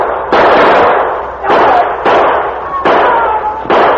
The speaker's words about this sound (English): They saw the sergeant rounding the building, and once more the silence of the night was blasted by pistol shots.